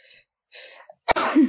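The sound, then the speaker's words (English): A loud sneeze bursts out after a couple of short sharp inhaled breaths, ending in a brief voiced trailing sound. “I did sneeze.”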